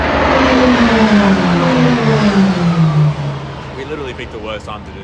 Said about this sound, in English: And the cars are going round again.